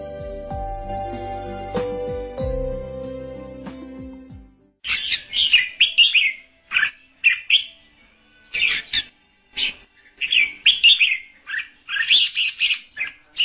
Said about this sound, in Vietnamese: Tôi thức dậy khi tiếng chim hót ríu rít thật vui tai trên rặng cây cao ở khu rừng thông bên cạnh nhà.